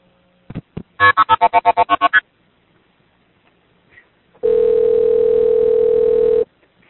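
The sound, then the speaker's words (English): A phone line on an emergency call gets disconnected: it clicks and gives a quick run of about eight rapid electronic beeps, falls silent, then a loud steady dial tone hums for around two seconds before cutting off. “Yeah, you got disconnected.”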